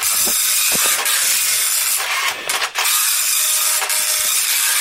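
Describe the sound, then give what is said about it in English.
An old, very slow printer prints out a score, grinding away steadily with a continuous hissing, rasping mechanical whir broken by small clicks and brief knocks, fairly loud, with no voices. “It's a very slow printer.”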